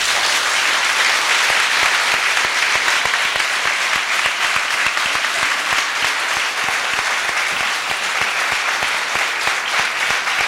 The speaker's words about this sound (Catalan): És tot el saló de plens. És tot el saló de plens el que aplaudeix Miquel Forns. Inclosa la bancada de l'oposició, la bancada socialista.